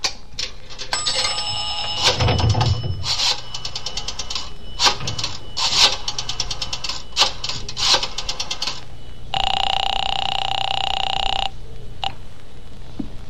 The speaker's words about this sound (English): When the cab drove away, I then went into the drugstore to the phone booth. I looked up the Roxmore Apartments in the book and dialed the number.